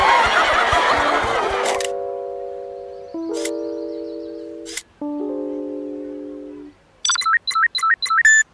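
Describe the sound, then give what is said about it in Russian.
A phone's power-down jingle as its battery dies: after a brief burst of noise, a few sustained electronic chime phrases step down in pitch, ending in a quick flurry of bright chirpy beeps. No voices. “Ну вот, у меня сел телефон.”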